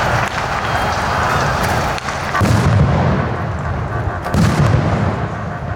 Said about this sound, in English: Water cannons were deployed in the freezing weather, as well as concussion grenades.